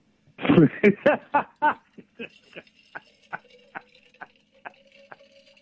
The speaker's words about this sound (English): because I'm refilling my water bottle here.